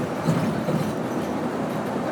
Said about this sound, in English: I hear the bus bouncing along the ground, along the speed bumps, and the whole bus rattling after each bump.